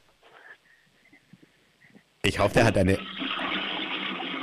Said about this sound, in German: Ich wollte gerade sagen, ich hoffe, du hast eine laute Klospülung und du hast tatsächlich eine laute Klospülung